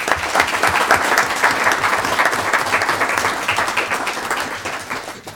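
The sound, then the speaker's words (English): An audience at a Manasquan Board of Education meeting applauds the Board of Education steadily, dense overlapping claps forming a loud, continuous wash that holds for several seconds before tapering slightly at the end. No one speaks. “I'm going to ask everyone out there tonight to give the Board of Education a round of applause.”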